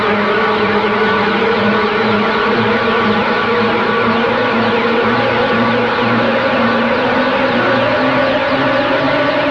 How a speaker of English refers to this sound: Sounded like killer bees to me.